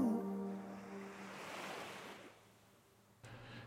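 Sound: sea waves breaking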